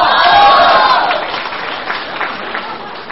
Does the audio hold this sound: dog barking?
no